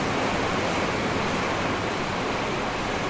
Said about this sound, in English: I'm hardly able to hear myself because the sound of the thunder and the rain is so strong outside.